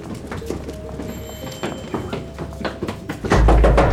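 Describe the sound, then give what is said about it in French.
Hurried footsteps pound up stairs amid scattered thuds and knocks, ending in a loud, heavy crash as police break down a door to enter a hideout, forceful. “Une cavalcade dans l'escalier, des cris, une porte défoncée, des policiers qui pénètrent dans la planque alors que les agents d'Alliance étaient en train d'émettre vers Londres.”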